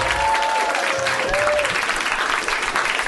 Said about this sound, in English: Let's give a really, really heartfelt round of applause